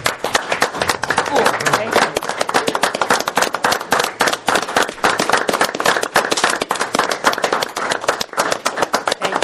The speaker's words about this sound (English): So I'd ask all of you to please give a round of applause